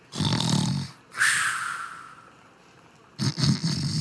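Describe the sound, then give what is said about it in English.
Loud, rumbling snores from a bearded dwarf conductor asleep on the ground against a wall at a trolley platform: a deep throaty snore, then a long whistling exhale trailing off, followed by another raspy snort-like snore starting. “His uniform is unbuttoned with his belly hanging out, and you hear snoring sounds.”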